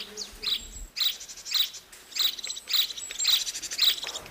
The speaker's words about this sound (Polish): Tego ptaka znacie, wróbel domowy. Jak się odzywa wróbel?